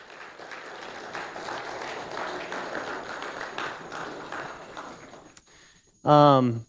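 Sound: audience round of applause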